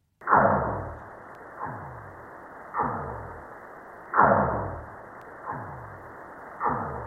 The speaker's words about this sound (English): Well, those gunshot-like noises are actually whale song from a pod of North Pacific right whales calling to each other off the coast of Alaska. The species is rare, and this is the first time this singing has been recorded and verified.